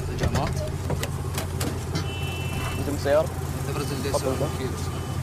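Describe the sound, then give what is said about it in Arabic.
A car engine idles with a steady low rumble throughout during a customs inspection, while people talk and a few short clunks and clicks sound over the hum. “سيارة تبرز الدبة.”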